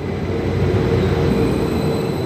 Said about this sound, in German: Am Hauptbahnhof Bingen schaut der gescheiterte Radler dem abfahrenden Zug nach.